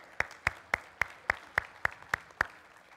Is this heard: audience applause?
yes